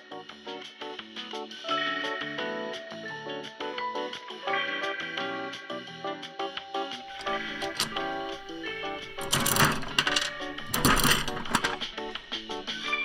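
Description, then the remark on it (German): The crank on the gumball side of a gumball machine turns with a steady run of ratcheting mechanical clicks, followed by a couple of louder rattling bursts as a large green gumball drops through the chute. “Du darfst jetzt mal entscheiden, an welcher Seite drehst du zuerst? An der Kaugummi. An der Kaugummi-Seite.”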